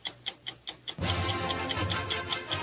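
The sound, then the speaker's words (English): A clock ticks in a steady, brisk, crisp rhythm. About a second in, a dense wash of sound swells up beneath it while the ticking continues. “Put it on the clock, Alvin. Let's start the clock on it right now.”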